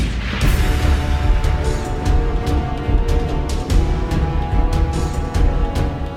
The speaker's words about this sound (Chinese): 林冲甲张青本正想讲没了忝啊，对方可能无打出来啊，正要回头转去的时阵，听到关内炮声一响。